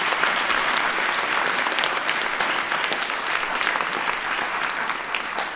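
Sustained applause from a sizable audience, a dense wash of clapping that stays steady and loud for several seconds without any voices breaking through, honoring a young person who built a refrigerator on wheels for transporting vaccines.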